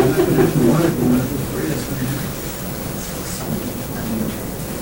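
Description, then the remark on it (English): Steady rain hisses in a constant wash of noise, with a low rumble underneath and faint indistinct voices murmuring near the start. “Is it raining? Yeah.”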